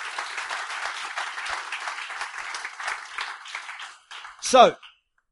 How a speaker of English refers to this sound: If you believe that, give the Lord a huge clap. Jeżeli w to wierzycie, zaklaszcie dla Boga.